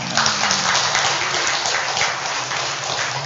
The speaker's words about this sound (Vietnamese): Bây giờ trong giảng đường này bao nhiêu người ăn chay trường đúng không quý vị, giơ tay tôi coi thế. Wow, coi như hơn nữa là cho tràng pháo tay lớn nữa.